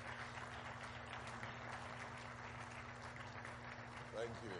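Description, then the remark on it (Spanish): Steady, dense applause from an audience clapping for God during a preacher's sermon fills the whole stretch, a continuous wash of clapping with a low hum beneath it and no pause. “Pongamos nuestras manos juntos para Dios. Aplaudamos.”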